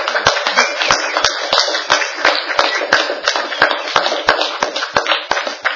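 A crowd at a Bible conference claps steadily for several seconds, a dense wash of overlapping handclaps with sharp individual claps punctuating it at a fairly even rhythm. No one speaks.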